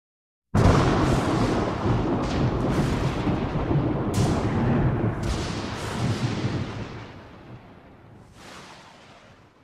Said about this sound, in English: Lightning raged, throwing stark shadows against the old church's stained glass windows. Torrential rain played a dirge upon its ancient timbers, each droplet a lament for forgotten ages.